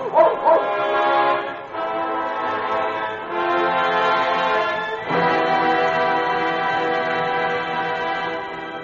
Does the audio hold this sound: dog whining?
yes